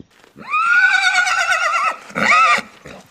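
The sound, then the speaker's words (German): A horse neighs loudly in a stable, one long shrill whinny lasting over a second, followed by a shorter second whinny after a brief pause, otherwise quiet. “Wir haben normalerweise die Pferde nur zum Füttern drin.”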